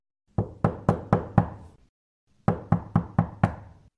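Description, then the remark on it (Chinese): Knocking on a house door by someone who has just got out of a car: five firm, evenly spaced raps, a pause of about half a second, then five more, resonant with a short woody decay. No voices. “因为太肚饿啦，佢开车去到嗰间屋嘅门口，落车敲门，希望屋里边嘅人可以俾啲嘢佢食。”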